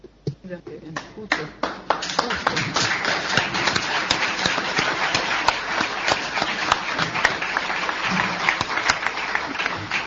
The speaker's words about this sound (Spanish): Podemos ir despidiéndonos, si les parece, ya que tenemos el aplauso de fondo.